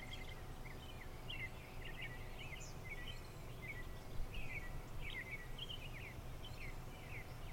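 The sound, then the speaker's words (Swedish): Small birds chirp and twitter repeatedly throughout, soft, over a steady low outdoor rumble of gentle wind. No one speaks. “Hör du vinden? Fåglarna som kvittrar?”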